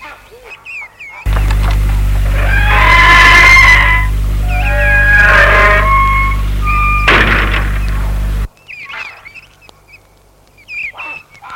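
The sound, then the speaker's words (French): A gate swings open with a run of high, squealing hinge creaks over several seconds, set against a steady low mechanical hum that cuts off abruptly, followed by quieter outdoor background. “Pour que le portail est ouvert, il entre dans la voiture et la met en route.”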